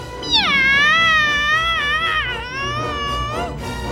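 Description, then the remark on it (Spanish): A long, drawn-out cat meow, loud, wavering up and down in pitch for about three seconds before trailing off, with a faint low background rumble underneath. “¡Aquí estamos! ¡Miau!”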